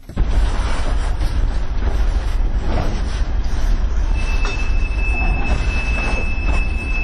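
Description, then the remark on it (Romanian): A train rumbles steadily through the railway depot in Chișinău, heavy low-end rolling noise throughout, with a thin, sustained metallic wheel squeal rising high above it in the second half. No talking. “Trenurile modernizate în România stau cu minți pe peronul depoului din Chișinău, printre garniturile vechi, așteptându-și rândul să fie repuse în mișcare.”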